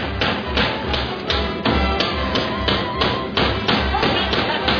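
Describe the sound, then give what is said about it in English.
Loud, repeated thudding blows land in a steady, fairly quick rhythm, like heavy pounding on a wooden door, continuing throughout; hammering at a theatre on the opening night of a play in Brooklyn. “Hammering on our opening night.”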